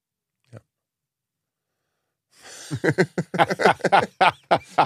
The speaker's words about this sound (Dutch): Hou eens op met dat fucking hoesten.